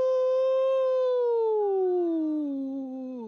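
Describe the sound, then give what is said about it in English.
A person imitates a wolf's howl: one long, sustained, tonal cry that starts steady and slowly glides downward in pitch, loud, with no other sounds. “Taking care of. Wolf style.”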